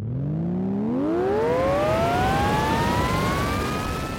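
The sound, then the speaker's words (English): A stun blaster being twisted on: a harmonic electronic whine sweeps upward in pitch for about two seconds, then settles into a steady, energetic hum over a constant bed of rushing noise. “She's worried it's broken, but she twists it on as they thunder towards the poacher's smoking wreckage, and it comes alive with an energetic hum.”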